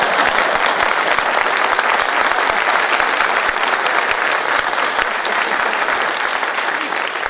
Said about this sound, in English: Of course I'm married. Where do you think I got my five children? Out front, applauding like mad.